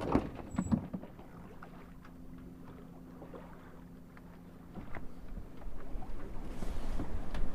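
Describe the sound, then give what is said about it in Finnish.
A boat drifting gently on water at just over one knot: soft lapping and a few light splashes at first, a faint steady low hum underneath, and wind noise swelling louder toward the end. No one speaks. “äsken mentiin tuolta ja sataa ihan vinossa ja nyt lillitään tässä ihan leppeesti.”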